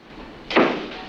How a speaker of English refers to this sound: Morgan has an anxious glance at Murphy before following the other men out of Connolly's office. Corelli's the last to leave and closes the door.